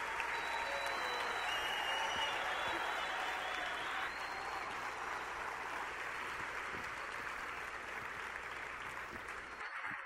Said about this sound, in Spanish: Ayúdenme a recibir con un fuerte aplauso